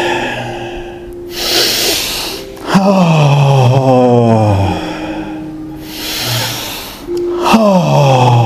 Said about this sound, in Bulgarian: Вдишай и издишай. Вдишай и издишай.